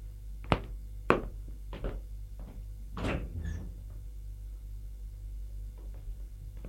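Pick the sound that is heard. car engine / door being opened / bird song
door being opened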